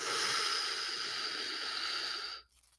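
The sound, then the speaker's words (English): A single long, forceful breath pushed out harshly for over two seconds, demonstrating strained breathing during rowing training, loud, hissy and strained, then cutting off abruptly into near silence. No one speaks. “Or is it going to be breathing like this?”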